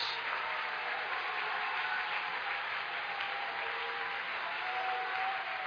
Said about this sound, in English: Clap your hands and give Him praise all over the house.